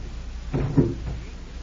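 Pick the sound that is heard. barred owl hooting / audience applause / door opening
door opening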